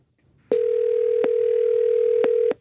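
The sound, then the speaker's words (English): A steady, unbroken telephone dial tone hums at a fixed mid pitch for about two seconds, then cuts off abruptly. A few faint clicks punctuate it, with no voices. “But before I go ahead and get Robert on the phone, I figure I might as well see if I can get one more opinion.”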